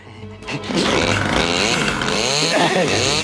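A chainsaw engine sputters to life and then revs loudly and steadily, its pitch rising and falling as the throttle is worked.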